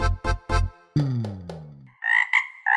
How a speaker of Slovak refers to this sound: Pre tých, čo nerozumujú rosničtine, budem prekladať.